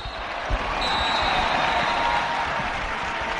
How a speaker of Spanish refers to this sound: Aplausos y más aplausos después de la victoria por 2-0 contra el Llanera y después de conseguir 3 puntos en casa, algo que no se conseguía desde el 28 de noviembre.